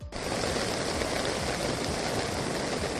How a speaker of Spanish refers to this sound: Así sonaba una tromba de agua caída esta mañana precisamente en Vera, en esta localidad navarra.